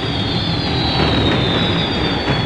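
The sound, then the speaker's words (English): A loud, steady roaring rumble of thunderclap, roar and shriek effects in a darkened stadium during a fireworks show, as the silhouette of an enormous red dragon appears above the stadium rim. Dense and continuous with a thin high whine running through it and no distinct separate claps. No one speaks. “There are thunderclaps, as you can hear, roars and shrieks.”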